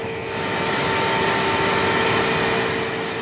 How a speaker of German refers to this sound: Nur kurz öffnet der Mitarbeiter die Tür zum Rechenzentrum. Dann macht er sie schnell wieder zu, denn der Lärm der Kühlaggregate ist ohrenbetäubend. Sie arbeiten gegen die Hitze von abertausenden Prozessoren an